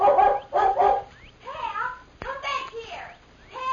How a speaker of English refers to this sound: As soon as they heard the dog barking, the Lone Ranger and Tonto leaped to their feet. A moment later, they saw the dog, a beautiful collie, golden brown with a white chest.